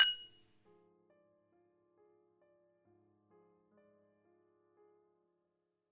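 A single bright clink of glasses raised in a drinking toast rings out at the start and fades quickly, followed by quiet, sustained melodic tones in the background. No one speaks.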